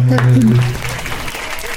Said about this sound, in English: The choir gave themselves a well-deserved applause